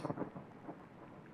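A nearby thunder clap rumbles loudly and deeply, rolling on with heavy low-end energy, while rain that shows no sign of stopping and is growing heavier patters steadily in the background.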